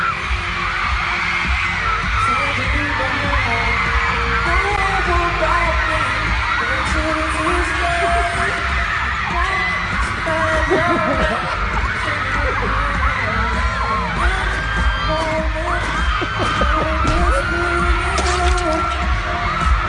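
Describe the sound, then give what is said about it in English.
A dense, continuous roar of a concert crowd of girls at a show in Miami, many high voices screaming and shrieking at once as a singer comes on stage, loud and sustained for the whole stretch with a low throbbing rumble underneath. “once he comes on stage, the girls go absolutely crazy.”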